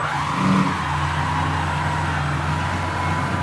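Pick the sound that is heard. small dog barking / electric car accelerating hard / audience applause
electric car accelerating hard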